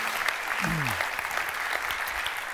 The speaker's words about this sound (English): What a great time we had last weekend over at the Pasadena Civic. Yeah, applaud that. That was really fun.